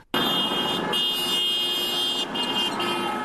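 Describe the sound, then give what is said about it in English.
Car horns blare in a sustained, overlapping chorus, loud, with brief dips between blasts over a steady backdrop of street traffic, as passing cars honk at a demonstration. “Honked and people cheered as they passed by.”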